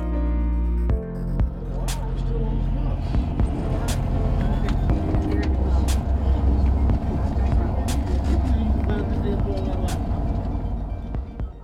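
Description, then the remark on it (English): A steady low rumble of a bus engine and road noise from inside a moving bus carrying mental health advocates on a five-hour ride from Buffalo to Albany, with occasional clicks and faint indistinct murmuring underneath. “After a five-hour ride to Albany, our bus reached the Capitol Complex at 8 a.m.”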